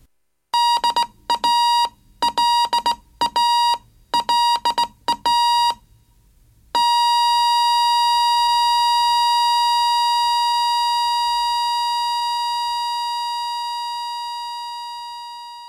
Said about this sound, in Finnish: Jatkosodan aikana suomalaiset radiokuuntelijat saivat usein kuulla ohjelmien taustalla seuraavanlaisia morsemerkkejä.